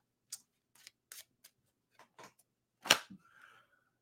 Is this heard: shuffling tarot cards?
yes